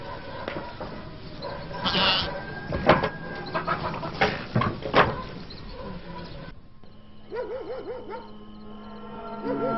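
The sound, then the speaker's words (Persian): A deer bleats: a run of harsh, raspy cries followed by softer, wavering, tremulous calls, fairly loud with no one talking. “خیلی قیلوغال مرغ و خروسا کم بود این آهو هم اومد روش.”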